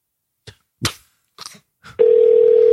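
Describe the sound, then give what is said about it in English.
A few soft clicks and rustles, then a steady, loud telephone ringing tone starts and holds unbroken until the end as a call is placed to a big company on a Friday night, with a faint hiss behind it and no talking. “Oh, it's ringing. It's actually ringing.”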